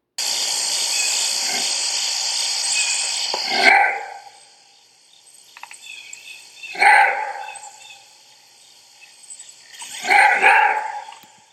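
A maned wolf's roar bark rings out three times, each deep, gravelly call spaced about three seconds apart, loud against a steady high-pitched buzz of insects in the background.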